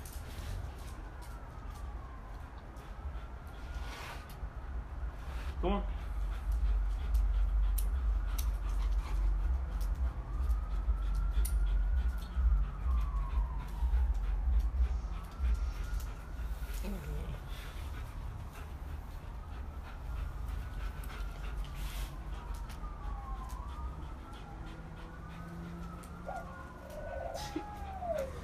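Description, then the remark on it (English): A dog whimpers in a series of high, rising-and-falling whines, repeated steadily over half a minute, with soft breathy panting and low background rumble underneath. “Did I confuse your dog or what? Is he confused?”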